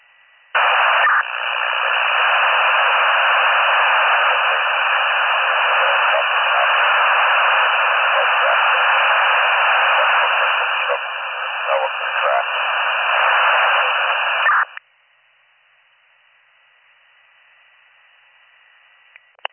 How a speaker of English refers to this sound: Okay, I'm not sure if you're talking to me or your guys, but everything was all static.